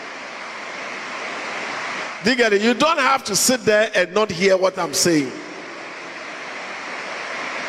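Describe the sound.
Rain pours down in a steady, even hiss that fills the whole clip during a preacher's sermon, with a voice speaking over it for a few seconds in the middle.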